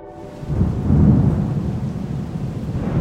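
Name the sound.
thunderstorm with rolling thunder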